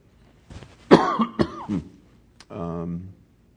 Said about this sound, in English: You're probably wondering why I'm coughing.